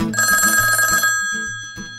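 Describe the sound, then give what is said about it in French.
A telephone bell rings loudly, a rapid metallic trill that cuts off after about a second, followed by a fainter ringing tail with no voices present. “Oh, mon téléphone qui sonne.”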